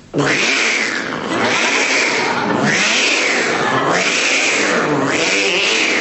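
A cat yowls loudly and repeatedly from inside a spinning prize wheel at a game show, about five drawn-out rising and falling wails in steady rhythm, over a constant rushing, whirring noise of the wheel spinning.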